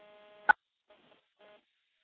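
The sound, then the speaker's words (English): A telephone on an electromechanical switch being dialed: a steady dial tone hums, then a sharp click cuts it off as 9 is dialed for an outside line, leaving near silence broken by two faint, brief bursts of tone. “We'll dial 9 for an outside line.”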